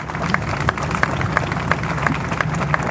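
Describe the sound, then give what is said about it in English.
An audience claps to welcome a pastor up to speak, in a steady, fairly even rhythm, with sharp regular beats about every third of a second over a dense wash of crowd noise and low hum, no one speaking. “Come on and give him a hand clap.”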